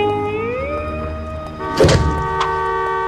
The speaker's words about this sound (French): C'est quoi ? Un klaxon. Ça, je sais. C'est qui ? Ça, c'est une Peugeot, ça.